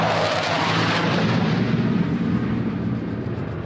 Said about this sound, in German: Kurz darauf donnern 2 polnische F-16-Kampfjets über die Weichsel.